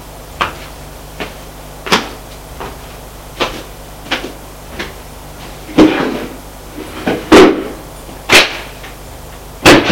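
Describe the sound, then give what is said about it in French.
Drawers of a chest of drawers in a living room are pulled open and shoved shut again and again during a search, a dozen or so wooden slides and knocks at an uneven pace, getting busier and louder toward the end. “Ouvre les tiroirs.”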